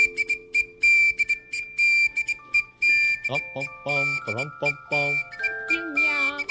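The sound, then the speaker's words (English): A shrill whistle is blown in a series of short and longer blasts, loud, while voices and other sounds carry on underneath. “Whistle kerchief, do your job.”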